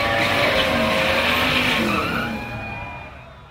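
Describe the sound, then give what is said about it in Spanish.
Race car engines start and roar at full throttle as the drivers floor the accelerator: a dense howling wall of revving with a squealing edge, loud at first, then easing slightly as it fades toward the end. “Se encienden los motores. Daniel Cortés y Manuel Matamoros aprietan el acelerador a fondo.”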